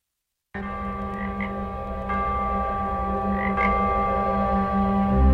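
A dense chorus of frogs croaking steadily and continuously, fairly loud, starting after a brief silence and swelling slightly louder toward the end, with no voices.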